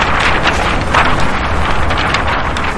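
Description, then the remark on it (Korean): Steady outdoor wind gusts across the microphone with a soft flapping, rustling texture of 416 yellow flags spread across Seoul Plaza during a citizen memorial event for the Sewol ferry disaster victims; a continuous, fairly loud rush with no voices. “지난 16일 오후 서울시 종합광장에 펼쳐진 416장의 노란 색도 화재가 바람소리를 냈습니다.”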